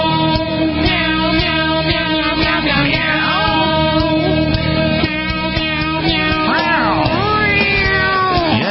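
Cat meows rise and fall over a loud, steady backing of music, several drawn-out mews woven into the song's melody, prominent with no talking.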